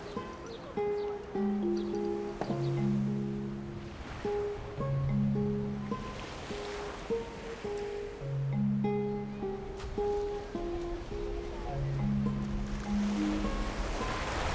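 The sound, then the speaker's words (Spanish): Ocean waves wash steadily onto a shore under intense sun, with soft, swelling surges, heard beneath a gentle melodic tune of sustained notes; no one speaks. “Y el mar tan brillante y azul.”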